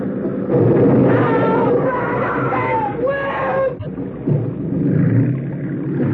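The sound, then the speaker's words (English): A motorboat engine roars steadily while people scream in rising wails, then a sudden crunching impact marks the motorboat running down a small boat carrying women and children, and the engine drones on afterward. “you ran down that boat.”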